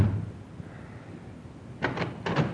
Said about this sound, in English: Come on, open the door.